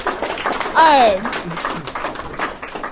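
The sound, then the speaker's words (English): An audience claps in a steady, dense patter for a few seconds, and a short falling whoop from a voice rings out above the applause near the start. “I guess if people clapping, you guys can clap.”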